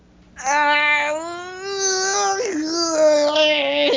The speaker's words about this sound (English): Excuse me, I just yawned.